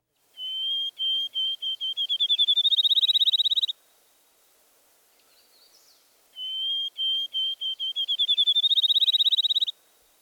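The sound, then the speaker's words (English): A field sparrow sings twice, each song a series of clear whistled notes that start slow and spaced, then speed up into a rapid trill like a bouncing ball, with a quiet pause between songs. “Does the rhythm of the field sparrow song sound like a ping-pong ball dropping on a table?”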